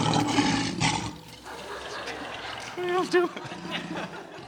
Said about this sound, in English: What is that noise? Whoa. What was that? That is what a lion sounds like.